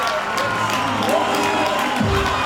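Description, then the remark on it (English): A large baseball stadium crowd roars and cheers in a sustained, loud wall of noise after a two-run home run in the fourth inning, with scattered whoops and shouts rising out of the din. “You could hear it in the crowd.”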